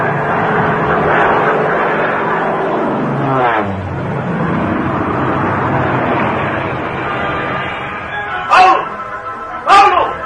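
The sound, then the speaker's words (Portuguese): A loud airplane engine drones steadily, its pitch dropping sharply midway as if throttling down, then two short, bright whining surges cut through near the end, as the pilot attempts a forced landing in darkness. “Tinha de localizar o meu companheiro e, sem demora, tentei fazer uma aterrissagem forçada.”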